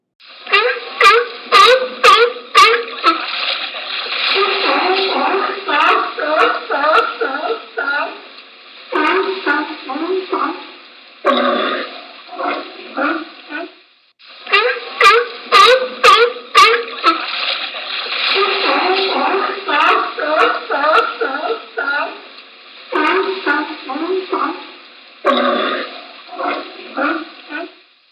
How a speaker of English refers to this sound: This animal is another type of marine mammal called a pinniped, which means winged foot. These animals have coarse, short fur and small external ear flaps on each side of its head.